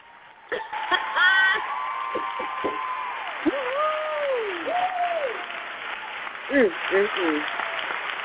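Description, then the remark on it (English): Steady applause from a small crowd for the Indie 100 Artists of the Week fills the whole stretch, with loud whoops and cheering voices rising over the clapping now and then. “Well, make sure, and I'm so glad that we finally have, you know what, let's give our Indie 100 Artists of the Week a round of applause.”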